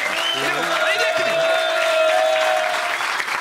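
An audience claps steadily throughout, a dense, sustained wash of applause with faint vocal tones and a long held whistle-like note running beneath it.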